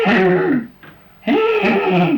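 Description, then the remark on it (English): A person vocally imitates a horse's nicker: two low, throaty, fluttering bursts separated by a brief breathy pause, fairly loud. “If the horses made up their minds to come in, would they make a certain noise?”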